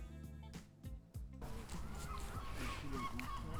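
Harsh, honking gull calls ring out repeatedly as two large gulls fly past overhead, loud above a steady wash of outdoor background noise.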